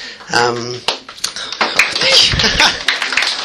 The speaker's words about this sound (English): This is going to take a long time if we clap every two sentences.